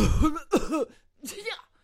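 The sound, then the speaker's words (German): Three rough coughs in quick succession, the first two nearly back to back and the third after a short pause, each a harsh voiced burst with no talking around them. “Das hören wir Corona hin oder her gerade auch an jeder Ecke. Husten, niesen, schneuzen.”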